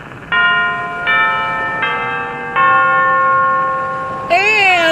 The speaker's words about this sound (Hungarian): Kedves hallgatók, éjfél van. A Westminster apátság harangszavát közvetítjük.